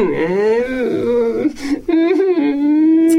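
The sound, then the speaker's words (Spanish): A voice imitates the whimpering, sobbing cries of Ernesto, a story character, wavering and drawn out over a few seconds, with a brief catch of breath midway. Fairly loud, with no other sounds around it. “Ernesto se marchó llorando mientras los demás seguían tumbados al sol.”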